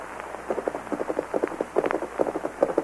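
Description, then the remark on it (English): A man rides a horse toward the listeners, hooves clip-clopping in a steady, quick rhythm of short knocks, moderately loud, with no voices over them. “There's a man riding toward us, Tonto.”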